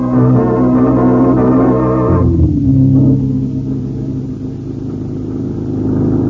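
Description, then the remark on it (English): A car engine revs hard on a highway, chasing another car, with rising harmonic whine, then drops in pitch and settles into a lower, steady rumbling drive before picking up again. Loud, with no voices. “There's a car up ahead.”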